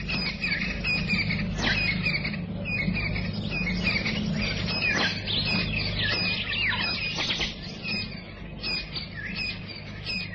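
A dense dawn chorus of many birds in the African bushveld chirping, trilling and calling at once, continuous and overlapping, with some sharp squeaky calls over a steady low background hum.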